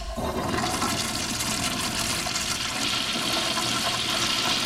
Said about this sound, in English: The river.